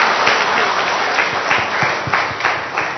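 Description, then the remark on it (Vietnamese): A crowd breaks into steady applause offered to the Virgin Mary along with a prayer family, many hands clapping densely and evenly for a few seconds, fairly loud, with no talking over it. “Chúng ta dâng lên Đức Mẹ một tràng pháo tay với gia đình cầu nguyện.”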